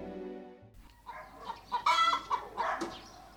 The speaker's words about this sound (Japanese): 私は生まれて初めて説教のお礼に生きた鶏をいただいたよ。